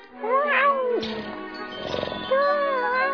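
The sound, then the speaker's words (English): A cat meows twice, drawn-out and wavering, with a rougher, scratchy stretch between the two calls. “Kitty, wanna play?”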